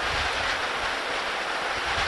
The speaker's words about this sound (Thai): นั่นฝนตกแล้ว